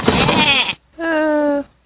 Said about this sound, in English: Wait, is that a... goat? Goats are a great gift, but maybe not for her.